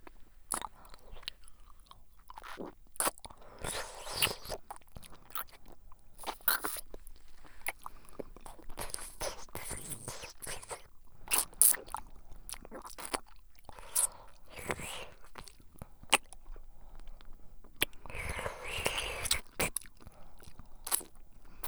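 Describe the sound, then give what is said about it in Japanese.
Crunchy chewing and biting with many sharp, irregular clicks and snaps, joined by muffled, mumbled speech from a full mouth that comes and goes throughout. “とりあえず口の中に何かを入れながら喋ればいいやつ。”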